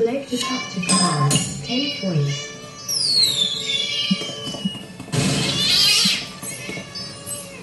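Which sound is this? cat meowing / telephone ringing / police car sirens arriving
cat meowing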